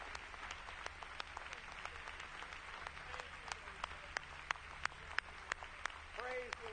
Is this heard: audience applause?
yes